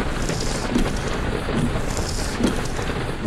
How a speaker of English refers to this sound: It has started to rain.